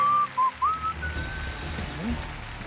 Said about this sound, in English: whistling the Carol Burnett song